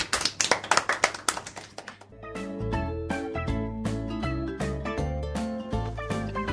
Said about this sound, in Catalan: Un aplaudiment molt fort per a ells.